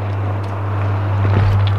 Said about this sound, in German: Das einzig Hübsche hier ist das Plätschern des Flüsschens.